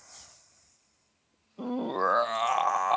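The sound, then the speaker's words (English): After a faint, near-silent opening, a Godzilla roar sound effect erupts: a loud, sustained, screeching bellow with rich ringing overtones that carries to the end, with no talking. “I'll put a Godzilla sound effect there, the Godzilla roar.”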